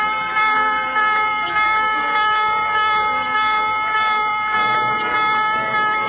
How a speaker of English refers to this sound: Gulf of Tonkin, destroyers of the United States Navy are assigned routine patrols from time to time. Sunday, August the 2nd, 1964, the destroyer Maddox was on such a patrol. Shortly after noon, the calm of the day is broken as general quarters sound.